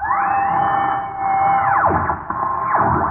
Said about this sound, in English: there's someone on the air who advertises a dancing school. I'll turn on the radio and get the station.